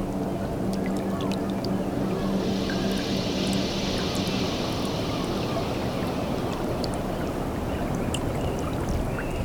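Soft water laps and splashes under a steady, incessant rushing breeze that fills the whole recording, with faint small clicks and a low hum drifting in and out, at Mont Saint-Michel with mist on the horizon.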